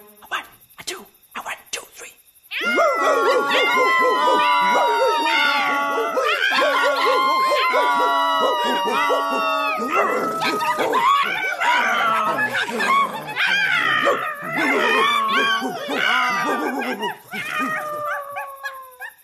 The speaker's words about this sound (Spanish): El burro rebuznaba. El perro ladraba. El gato maullaba. Y el gallo cantaba.